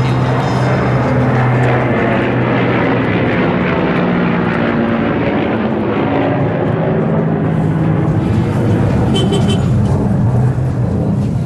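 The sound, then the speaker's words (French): An airplane roars overhead, loud and sustained, above a dense wash of chaotic street traffic with engines and hum filling the background throughout, on the avenue of the grand bazaar of Kabul, Afghanistan, which runs from the Kabul River to the stadium. “On entend l'avion qui passe là, et la circulation c'est de la pagaille.”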